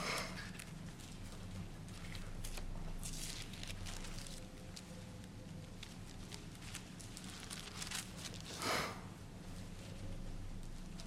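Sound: sniffles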